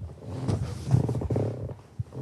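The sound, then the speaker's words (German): A wooden rocking chair creaks in low, groaning, drawn-out squeaks that waver in pitch, moderately loud and with no voices, ending with a brief knock. “Hast du gehört, mein Stuhl macht Sound.”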